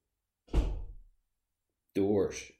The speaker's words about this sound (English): Doors. If you're hearing doors throughout this podcast, it's because one of the kids is just constantly walking in and out of the rooms. There's another one.